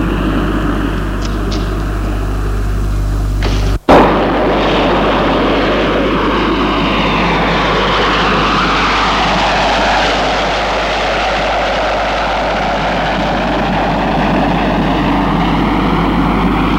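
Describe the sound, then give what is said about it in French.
A small private propeller airplane landing at Saint-Olas airport near Lyon, France, drones loudly and steadily, its engine pitch sweeping down and rising again as it passes. A sharp click sounds near the start, and no one speaks. “Son avion privé va atterrir à l'aéroport de Saint-Olas.”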